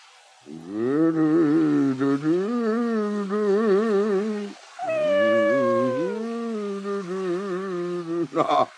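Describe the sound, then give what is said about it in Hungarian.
A cat meows in two long, drawn-out, wavering yowls, loud, with a short pause between them and a brief squeak at the end; no one speaks. “Te kis buta macska, menj innen, míg vizes leszel.”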